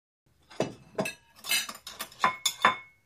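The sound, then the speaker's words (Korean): Clean cups are set down in a row on a hard counter beside a coffee machine, one after another: about six clinking knocks at an unhurried, slightly uneven pace, fairly quiet, with a faint ring after each. “에리카는 커피머신 옆 카운터에 깨끗한 컵을 열맞춰 세웠다.”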